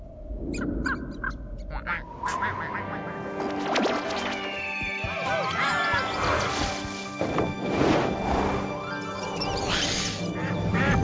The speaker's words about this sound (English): So many ducks.